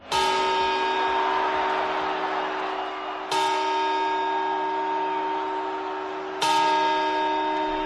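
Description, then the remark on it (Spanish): Three loud clock bell chimes at midnight on New Year's Eve strike at a slow, steady pace about three seconds apart, each tone ringing out and sustaining into the next, with no voices present. “No nos hemos vuelto locos, todavía no es fin de año, pero te pregunto, ¿ya sabes dónde vas a ver las campanadas de este fin de año en Nochevieja?”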